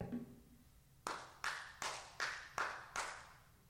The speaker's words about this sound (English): Yeah, we can clap our hands in worship. We do, and that's fine. But if that's it...